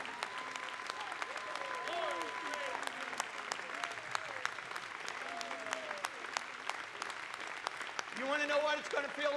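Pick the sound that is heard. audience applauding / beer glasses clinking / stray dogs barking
audience applauding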